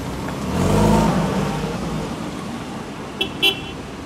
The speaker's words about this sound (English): The car drives off.